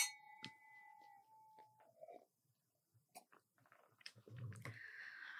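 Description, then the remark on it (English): Wine glasses of Montepulciano d'Abruzzo, an Italian red wine, clink together in a bright toast, the high ringing tone lingering for about two seconds before fading into scattered small clicks, knocks and a rushing, rustling noise. “So still an Italian red. Yep. All right. Cheers.”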